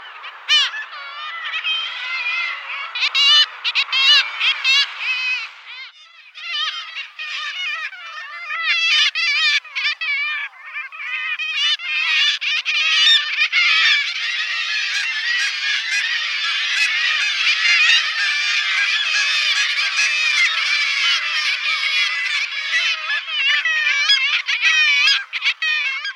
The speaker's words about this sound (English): Kittiwakes make a wild call to go with their wild, deep ocean nature.